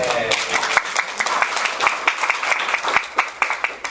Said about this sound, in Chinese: 好，拍拍手。